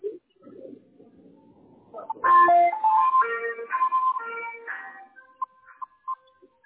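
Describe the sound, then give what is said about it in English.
An ice cream truck jingle plays a short, bright melody of stepped tones, fairly loud and clear, ending in a few scattered notes; faint low rumbling comes just before it. “Is that an ice cream truck?”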